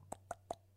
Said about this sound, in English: Can you hear that? Yeah. Was that you? What did you hear? Oh, just a phone vibrating. What did you mean? What did you mean? Oh, I might have to keep that in. I was gonna cut it out, but that was not a phone vibrating. That was my stomach.